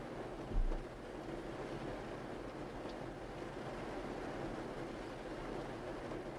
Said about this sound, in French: Continuez de vous laisser bercer par le son de la pluie en portant votre attention à présent sur votre respiration.